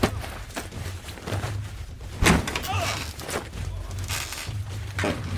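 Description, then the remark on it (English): A single heavy thump as Lucho el Luchador, during an aerial attack, turns right and knocks straight into the chest of Dr. Rodrigo, landing sharply about midway, loud, over a steady background rumble with a brief vocal exclamation just after. “In the middle of this aerial attack, Lucho el Luchador turns to the right and knocks straight into the chest of Dr. Rodrigo.”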